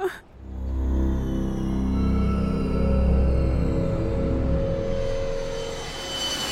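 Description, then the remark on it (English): A steady, loud aircraft engine drone with a deep low rumble and a sustained whining tone from a Bombardier Challenger 300 executive jet cruising 40,000 feet above sea level over South China, continuous throughout with no voices. “Meanwhile, 40,000 feet above sea level, a Bombardier Challenger 300 executive jet raced through the skies of South China.”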